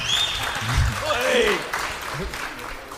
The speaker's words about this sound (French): On peut applaudir